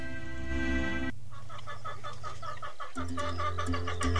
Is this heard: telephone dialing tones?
no